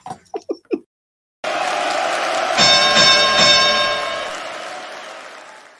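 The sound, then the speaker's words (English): A wrestling ring bell sound effect, played for a bell-to-bell graphic, clangs several times in quick succession, its bright metallic ringing rising over a loud, steady crowd roar that slowly fades afterward. “You just need that button, just the bell.”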